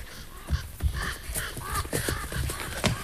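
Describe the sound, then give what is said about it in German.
Harsh, repeated caws from several ravens at a ruin, croaking over one another in an irregular burst, with soft rustling like wings beating as they fly up on seeing people arrive. “Nur ein paar Raben flatterten hoch, als sie uns sahen.”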